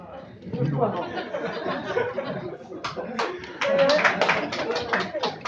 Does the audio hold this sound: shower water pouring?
no